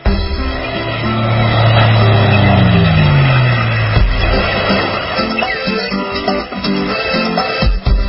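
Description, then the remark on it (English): A loud motorboat engine roars, its drone dropping in pitch as the boat speeds off, with rushing water and wind noise throughout and no voices. “And it's time for the beach and boating forecast brought to you by the Freedom Boat Club. And away we go.”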